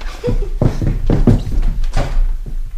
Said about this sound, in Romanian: Oh, iar e cineva la ușă. Mai bine ar fi lăsat-o deschisă.